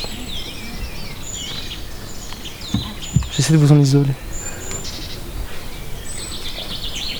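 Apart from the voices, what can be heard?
birds singing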